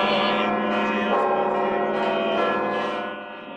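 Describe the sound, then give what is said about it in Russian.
Church bells ring out continuously in a dense, overlapping peal, their rich metallic tones sustained and fairly loud throughout, fading slightly at the very end, on a clear morning in hard frost on the first day of winter in Sviatohirsk (Svyatogorye). “Крепкий мороз, ясное утро и звон колоколов.”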